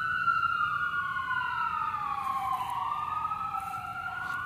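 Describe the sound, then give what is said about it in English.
An emergency vehicle siren wails outside as it passes, its pitch sweeping slowly down and back up over a steady low rumble of traffic, continuous with no one speaking. “It's a poignant reminder of the world we live in, with the sirens.”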